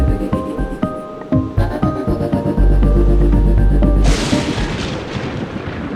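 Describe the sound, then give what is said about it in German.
Deep, heavy thunder rumbles and booms roll through a raging storm outside in the Alpine region, with a sustained low roar building midway before giving way to a hissing wash of wind and rain. “Solange es da draußen stürmt, kriegen wir einfach keine Verbindung.”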